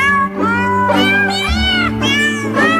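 Recorded cats meow in a steady, tuneful sequence over a bouncy instrumental backing, each sustained meow pitched like a sung note in a loud, upbeat novelty song.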